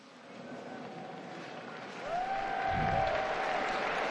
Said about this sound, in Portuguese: E os fiéis na Praça São Pedro saúdam o Papa com um aplauso.